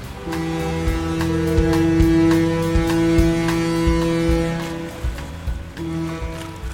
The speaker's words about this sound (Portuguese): Esse som aí da água batendo tem uma explicação. Eu vou te colocar agora dentro de um navio que está se aproximando do porto de Nova York. É o ano de 1903.